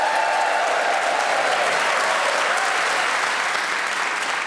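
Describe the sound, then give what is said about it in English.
The audience of Just a Minute applauds loudly and steadily for the four panelists: Rachel Paris, Paul Merton, Patterson Joseph and Julian Clary. It is a dense wash of clapping with whoops and cheers mixed in, holding at a constant level for several seconds with no talking. “Please whoop and cheer for all four.”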